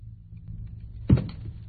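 A phone drops with a single dull thunk and a brief rattle against a hard surface, heard alone over a low steady hum.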